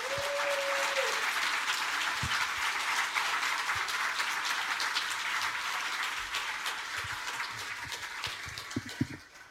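Sustained audience applause, a dense wash of many hands clapping at steady volume that gradually thins and softens toward the end, with a brief tone at the start.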